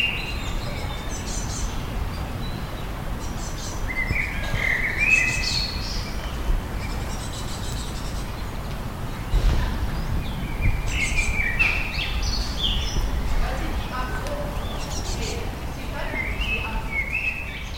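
Several birds sing and chirp outdoors in the garden of a religious order's motherhouse, with bright, warbling phrases scattered throughout over a steady low rumble of outdoor background noise.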